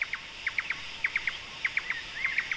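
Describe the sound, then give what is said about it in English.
A forest bird chorus of laughing thrushes, drongos and Indian cuckoos: bright, quick chirps come in repeated clusters of two or three over a faint, steady insect-like drone, with no voices. “We heard laughing thrushes, and we heard drongos and Indian cuckoos and all kinds of birds with really distinctive calls.”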